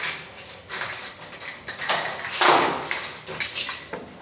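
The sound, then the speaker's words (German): A handed-over key scrapes and clicks in the lock of a well-locked door amid metallic jingling, then a door handle rattles and the door creaks open, with no talking, in a former telecommunications depot building. “Die Tür ist sehr gut verschlossen. So, und jetzt kommen wir durch.”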